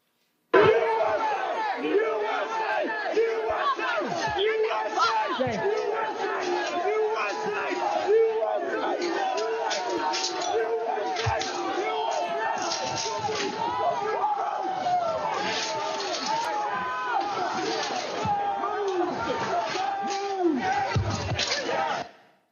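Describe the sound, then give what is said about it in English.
A loud, dense crowd shouts and yells continuously, voices overlapping in a chaotic roar with scattered sharp bangs and smacks, as it breaches a police line guarding bike racks at the Peace Circle, where an officer was injured; the commotion is sustained throughout. “a short clip that shows the horrible moment when you were injured as the peace circle was breached.”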